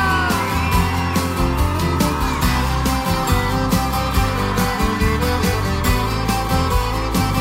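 A concert crowd shouts and cheers, their voices blending into loud, steady live band music that fills the whole stretch without a break.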